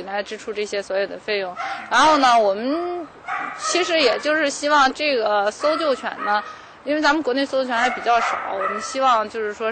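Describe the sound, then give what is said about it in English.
Several search and rescue dogs bark and yip in rapid, overlapping bursts, loud, with occasional whining whimpers mixed in throughout, at a search and rescue dog training center in Baoding, Hebei province, China. “We'll next visit the Baoding Search and Rescue Dog Training Center, based in Baoding, a city located in China's Hebei province.”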